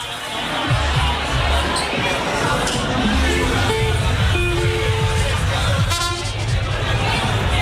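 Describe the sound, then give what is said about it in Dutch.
A crowd applauds and cheers steadily for the whole stretch, loud and dense, with short horn toots and a few whistle-like tones cutting through over a low rumble. “Dus applaus voor jezelf vooral.”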